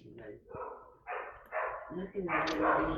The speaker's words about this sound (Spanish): Parece un perro. Te iba a decir. Ese es un colibrí berilio.